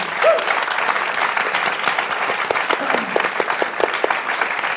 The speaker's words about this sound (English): Round of applause for everybody here.